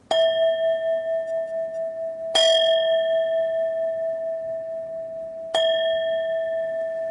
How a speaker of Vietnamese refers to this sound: Thì bên này vừa thỉnh xong ba tiếng chuông rồi, mình muốn đáp lại á, cũng vừa để cho tiếng chuông nó vừa khoảng ngân.